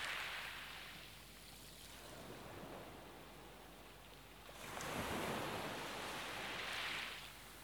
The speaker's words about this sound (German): treiben lassen im Rhythmus der Wellen, sanft getragen. Du spürst jede Welle, die sanft vom Wind herangetragen wird,